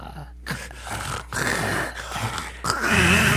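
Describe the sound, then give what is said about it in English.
Heavy, rasping breaths right up against the microphone, several loud inhales and exhales in a steady rhythm with brief pauses between them, and no talking. “That's me breathing because I breathe like goddamn Darth Vader without the mask.”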